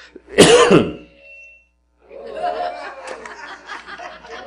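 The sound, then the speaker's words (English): A single loud cough bursts out, harsh and throaty, then a brief silence before voices resume talking in the background. “Lord, help me not to cough again.”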